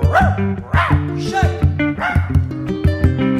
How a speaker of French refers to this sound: C'est un bon chien, même s'il grogne, la nuit il me défend.